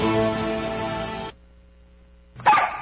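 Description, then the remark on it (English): A dog barks and whines, first a long drawn-out cry, then a brief quiet pause before a sharp, louder bark at the end. No one speaks. “I guess I better let the dog in.”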